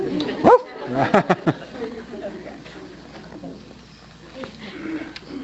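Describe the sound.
A dog gives a few sharp barks and yelps in the first second and a half, then quieter whimpering noises trail on over a low murmur of voices.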